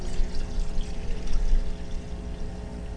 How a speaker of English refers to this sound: We're going to take water, simple water.